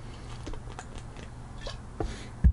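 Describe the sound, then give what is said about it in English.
Someone takes a drink: soft wet mouth clicks and small sips, ending in a louder gulp, with no talking. “Drinking break, first off.”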